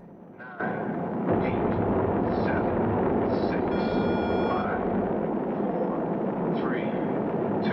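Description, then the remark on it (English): The launch roar of the ship Moonraker 1 lifting off in the film Moonraker bursts in after a brief quiet moment and holds as a loud, dense, rumbling wall of noise, with faint whining tones and chirps flickering above it. “A screen shows plumes of smoke appearing as the ship shoots up into the sky.”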